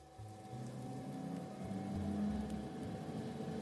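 A steady mechanical hum and whir of a large professional oven starting up to preheat to 180 degrees, with low droning tones that shift slightly and a faint high whine running throughout, moderately loud and continuous.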